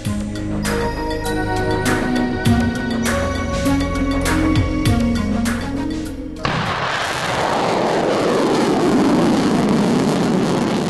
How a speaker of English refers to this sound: Gotta love that sound if you're a regular in these parts. It was a Black Brant 9 rocket taking off from Wallops Island, Virginia, last August 17. Tucked tightly into the nose of that rocket was the Inflatable Reentry Vehicle Experiment, or IRVE.